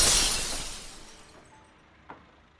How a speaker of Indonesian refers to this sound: Hanya pun melempar benda ke kaca itu hingga kaca itu pecah.